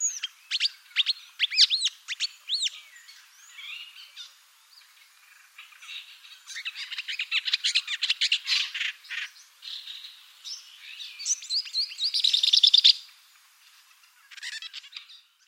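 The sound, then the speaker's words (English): A Burmese shrike (Lanius colurioides) sings a varied, melodious song of rapid chirps, trills and warbled phrases in bursts, fairly loud, with brief pauses between phrases and no voices. “Over in Cambodia and other parts of Southeast Asia, we've got the Burmese shrike, Lanius colurioides. It too can sing a somewhat melodious song.”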